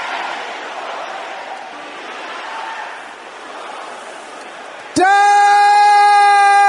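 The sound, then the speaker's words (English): A large crowd at a prayer service shouts together in a loud, sustained roar of overlapping voices, cut off near the end by a sudden steady ringing tone like audio feedback. “Any problem in my life because of the sins of my parents, can I hear you shouting that loud?”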